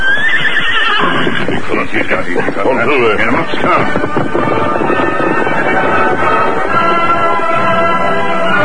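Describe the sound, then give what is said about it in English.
A horse whinnies loudly, its shrill neigh rising and wavering, followed by further snorts and neighs over a steady clip-clop of hooves moving at an easy pace, as the Lone Ranger and Tonto ride up the coast trail and pull their horses to a slow pace. “Then they pulled their horses to a slow pace.”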